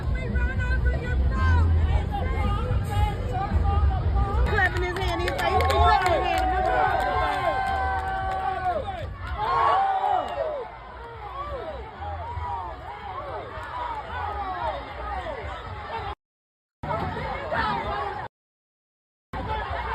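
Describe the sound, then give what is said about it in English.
A rowdy nautical crowd brawl involving people on a boat at the riverfront in Montgomery, Alabama erupts in loud, overlapping shouts and yells, many voices clamoring at once in a dense, chaotic hubbub that continues throughout, cut by two brief silent gaps near the end. “One of the things when there's a, because this is a nautical crowd fight”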